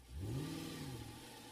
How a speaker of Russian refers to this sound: Машина тронулась и понеслась по лесной дороге. Мотор ревел, как стадо быков, молнии сверкали рядом.